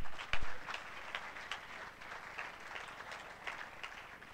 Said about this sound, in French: On peut les applaudir?